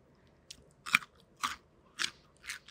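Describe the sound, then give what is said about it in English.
Crunchy chomping: five crisp, crackly bites land at a steady, unhurried rhythm with quiet pauses between them and no talking. “It's the, like, breaking it to get that crack.”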